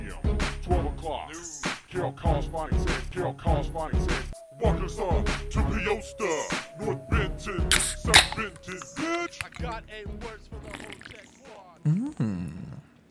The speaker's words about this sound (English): Oh, that, my good friends, is the sound of a couple cold, crisp beers being cracked. Oh, they crisp.